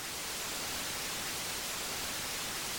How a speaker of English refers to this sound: And then we bring in this adaptive white noise, which is designed basically to mask out disturbances.